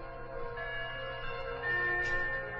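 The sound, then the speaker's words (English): Bells chime steadily in San Francisco on a foggy winter day in 1893, a few weeks before Christmas, heard in a hotel lobby; their overlapping tones ring and sustain into a continuous resonant wash that swells slightly toward the end, with no voices present. “On her hands and knees, an old woman listens to the chimes as she scrubs the floor of a hotel lobby.”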